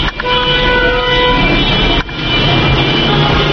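Loud, dense city street traffic in Tehran, with streets and highways full of private cars, a sustained car horn blaring in the first second and a half over a constant rumble of engines, then the traffic noise continuing steadily.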